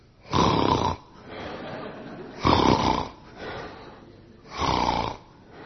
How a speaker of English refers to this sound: And we realised that the man very close to me had fallen asleep. And what was he doing? He was snoring.